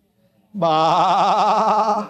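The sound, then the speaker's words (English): A person imitates a sheep with a single sustained, wavering "baa" bleat, loud, starting abruptly after a brief quiet moment and holding steady to the end. “What kind of sounds do they make?”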